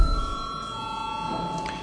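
A voting bell in the Latvian Saeima (parliament) rings continuously for about two seconds before a vote on confirming a deputy's mandate. It is a steady, sustained, high-pitched electronic tone at even loudness with no one speaking over it.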